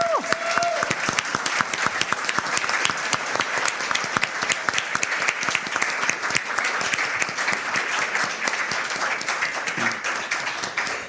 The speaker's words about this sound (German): Ihr seht die beiden da hinten schon auf der Flucht. Ja, sie wollten gerade flüchten vor eurem Applaus. Genau, aber danke euch.